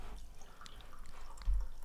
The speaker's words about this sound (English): But yeah, before we get into that, as we always do, let's pour some batch brew. Pouring some batchy.